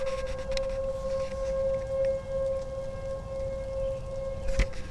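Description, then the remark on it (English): Steady outdoor tornado warning sirens drone at a constant pitch, heard through an open window with the microphone pointed out of it, with a low rumble of wind or rain underneath and no voices. “Yes, those are tornado sirens.”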